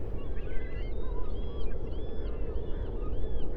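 Many high, squealing seagull cries overlap throughout, rising and falling in pitch over a steady, dense wash of tidal water with occasional splashes and a low rumble, with no voices.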